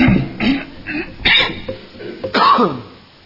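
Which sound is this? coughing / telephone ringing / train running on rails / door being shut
coughing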